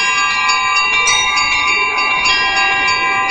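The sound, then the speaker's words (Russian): Small church bells chime together at an exhibition opening in a dense, continuous peal, many bright overlapping rings sustaining without pause. Fairly loud, with no voices. “На открытии выставки устроили перезвон небольших церковных колоколов.”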